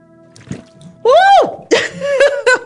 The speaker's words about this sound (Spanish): Y vamos a inhalar por la nariz, exhalar en la botella a través de la pajita.